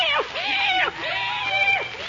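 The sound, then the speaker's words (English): A cat meows three times in quick succession on a dark, moonless night, each a drawn-out, rising-and-falling cry, fairly loud. “Hey, kitty, kitty, kitty, kitty.”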